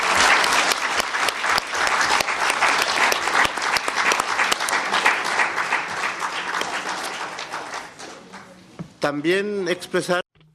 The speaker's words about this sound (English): But we've had so many meetings in this room, so I ask you for a round of applause for the interpretation services.